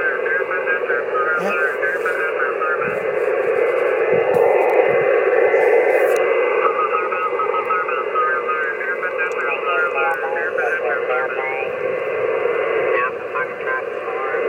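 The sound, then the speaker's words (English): A narrowband, static-laden radio transmission carries garbled, hard-to-follow speech, steady for most of its length before dipping slightly near the end. “Oh, he's fading away a little bit.”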